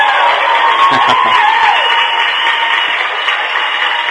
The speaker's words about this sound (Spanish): Aquí sí funciona así, aquí sí nos aplauden cada vez que decimos algo. Y como les decía yo hace un rato, aquí no hay aplausos grabados, es nuestra audiencia.